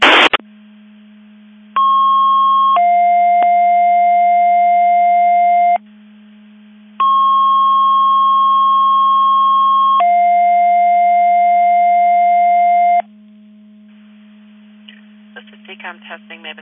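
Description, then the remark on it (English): Radio paging alert tones from a Division 2 Mutual Aid Box Alarm test of the alerting receivers at 9:55 hours: a long steady higher tone slides into a long lower tone, and the pair repeats twice over a constant low hum, ending in crackly radio noise. “Qualcomm Avis Division 2 testing the Division 2 Mutual Aid Box alarm alerting receivers.”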